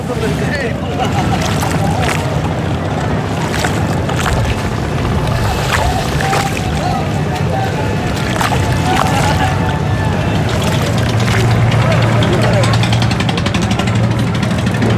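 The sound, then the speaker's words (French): Busy waterfront ambience at the port of Dakar by the river, with boats moving on the water, a steady low engine rumble, lapping water and scattered clanks and knocks, with indistinct voices in the background throughout. “Ben, écoute, on est dans le port, au bord de la rivière.”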